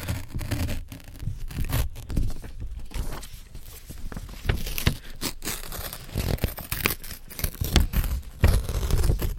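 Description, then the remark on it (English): Paper is slowly torn off a printer in a long series of crisp, crackling rips and crinkles, fairly loud, with uneven bursts continuing throughout and no talking. “Just getting it off the printer. It takes a while to get it off.”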